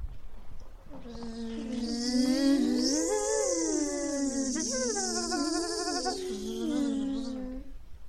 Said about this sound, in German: Nur finde ich, dass hier ziemlich viele Mücken unterwegs sind.